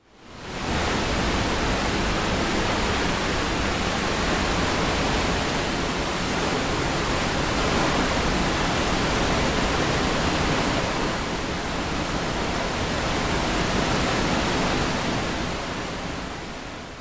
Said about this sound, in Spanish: El sonido sorpresa de hoy fue el sonido de las cataratas.